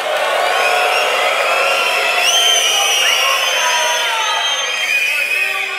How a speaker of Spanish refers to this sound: Joder, gritáis como si se hubiera dicho Isabel Díaz Ayuso.